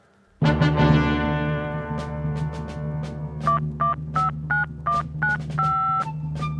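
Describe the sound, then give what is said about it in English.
A burst of clicks opens onto a steady low hum, then a quick series of telephone touch-tone keypad beeps as a phone call is dialed, about eight short two-pitch tones in irregular rhythm, fairly loud with no one talking. “This is the phone call to Americans.”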